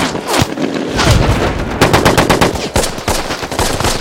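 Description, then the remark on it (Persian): Sustained machine gun suppressive fire in rapid, continuous bursts, loud and sharp throughout, with dense repeated cracks and heavy low thumps layered together and no pauses. “آتش بازدارنده، آتش بازدارنده”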